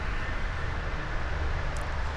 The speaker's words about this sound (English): Alright, I'm walking through the forest on a deer path. You can probably hear the traffic on the I-680 loop buzzing by me.